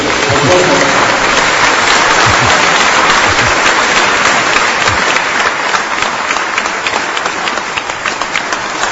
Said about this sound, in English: so let's give her a big round of applause for that service.